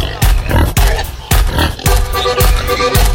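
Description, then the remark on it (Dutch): Hungry pigs belonging to farmer Hans grunting and oinking loudly in a rapid, overlapping series of short snorts, continuous for a few seconds, with no talking. “Hey, boer Hans, jouw varkens hebben honger.”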